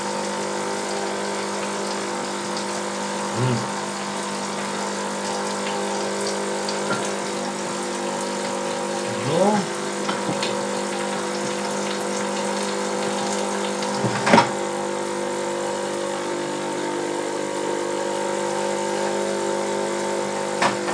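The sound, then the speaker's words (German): A fully automatic coffee machine's pump drones steadily with a buzzing, tonal hum while liquid hisses and sprays out quite a lot underneath, broken by a few brief clunks and surges along the way. No one speaks. “Das Schöne ist ja, dass er ganz schön spritzt jetzt hier.”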